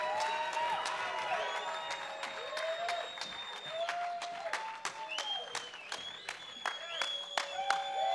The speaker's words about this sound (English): What a great job. How about another big round of applause?